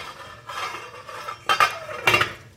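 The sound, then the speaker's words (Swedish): Metallic kitchen clatter as a lid is set onto a saucepan of salted water for cooking quinoa on a stove with hotplates, with a softer scrape followed by two sharp clanks of metal on metal. No one speaks. “Och sen ska vi ha ett lock på kastrullen.”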